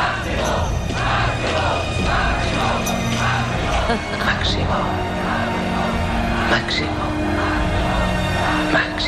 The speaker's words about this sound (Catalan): conversa que van mantenir Màxim Huerta i Pedro Sánchez minuts abans de la compareixença de l'exministre, mentre s'ascendien de fons els crits de la Jauria reclamant el cap de Màxim.